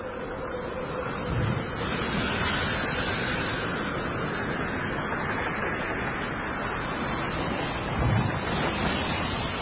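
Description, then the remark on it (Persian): A constant roar of howling wind and rough sea waves tossing a boat fills the scene, broken by two heavier wave surges, one early and one near the end, with no voices present. “صدای فریاد و دعا در صدای زوزه باد و موجها می پیچید.”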